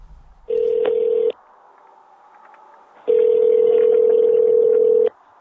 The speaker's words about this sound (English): It's the middle of election season in Kansas, but he has agreed to speak to me on the phone, so I'm just going to call him up now.